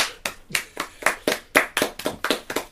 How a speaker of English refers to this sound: Sorry, he loves applause. He loves applause.